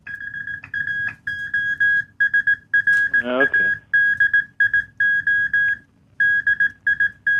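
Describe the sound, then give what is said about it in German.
Morse code beeps: a steady, high-pitched tone keyed on and off in irregular short and long bursts, with a low rumbling murmur underneath and a brief rising warble partway through. “Ja, also du kriegst Bonus- und Kürpunkte für Morsecode vorsingen und überhaupt anrufen, weil du bist der Erste, der es versucht hat.”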